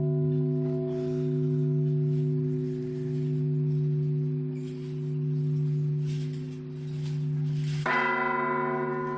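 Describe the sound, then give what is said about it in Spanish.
A church bell tolls slowly to announce a death. Its deep, sustained ring swells and fades in long waves, then a fresh strike near the end brings a brighter, fuller peal. No voices are present. “Es el repique de una campana que anuncia un fallecimiento.”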